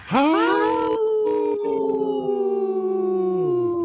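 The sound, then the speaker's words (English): Three human voices imitate a wolf pack, howling together in overlapping long, sustained tones that swoop up and then slowly slide down in pitch, loud, with no talking. “Wow, that's a good, healthy howl by us three.”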